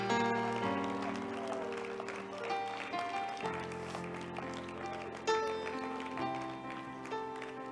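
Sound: audience clapping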